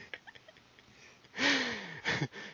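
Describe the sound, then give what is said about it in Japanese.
Someone imitates an old man snoring in a cinema during a tense scene: after a quiet moment, a loud, raspy snort with a falling groan, then two shorter snorting breaths, with no talking. “なんていうんですかね、緊張感あるシーンに響き渡るいびき。”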